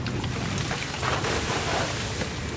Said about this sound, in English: This is the moment we've all been waiting for. The net is drawn to the side of the boat and the first catch of the day comes on board.